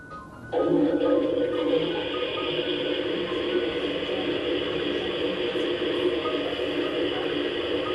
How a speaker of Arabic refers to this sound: في زر في اليابان هو عبارة عن صوت فلاش، يعني تضغط كده يطلع كأنك شديت السيفون، تضغط كده يطلع، بس ما في موية يعني.